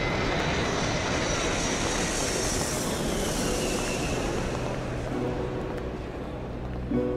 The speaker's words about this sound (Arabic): طائرتكم على وشك الإقلاع.